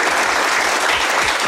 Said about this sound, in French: Applaudissements des journalistes présents dans la salle.